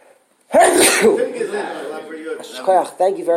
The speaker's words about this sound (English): I'm going to sneeze.